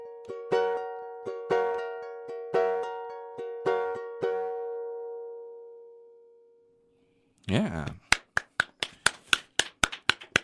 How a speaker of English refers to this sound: Yes, we need to applaud.